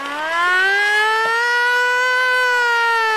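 A loud siren wails steadily, its pitch rising slowly and then holding high in one long sustained tone with rich harmonics. No one speaks.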